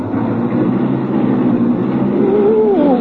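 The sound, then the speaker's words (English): A car engine is started and runs loud with a steady low rumble, then its pitch climbs near the end as the engine revs up. No one speaks. “Step on the brake? To start my car?”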